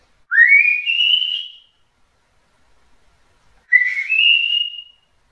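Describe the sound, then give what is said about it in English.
A person whistles two clear, rising notes, each held for about a second with a short pause between them. The whistling is fairly loud, with no talking or other sounds. “That blessed old man walking right down the sidewalk, and he was a whistling.”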